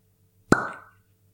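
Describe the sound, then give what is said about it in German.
A single sharp, hollow pop as a cork is pulled from a whisky bottle, clear, with a short ringing tail fading out into quiet. “Eins, ich muss mal gucken, ob wegen dem Korken, ich bin ein bisschen vorsichtig, dass da hier nichts schief geht.”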